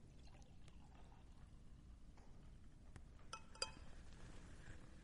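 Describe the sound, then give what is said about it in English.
Wine pours steadily into a cup for several seconds, a continuous low gurgling splash, with a couple of bright little clinks of glass near the end. No one speaks. “He poured it.”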